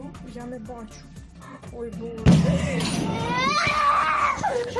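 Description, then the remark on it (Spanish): Talk is cut off by a sudden loud bang of an explosion beside a house in Kyiv, Ukraine, during the war, after which a small frightened child begins wailing and crying loudly, the sobs rising and falling for a few seconds. “Un chiquitín rompe a llorar, asustado por la explosión que acababa de escuchar al lado de su casa.”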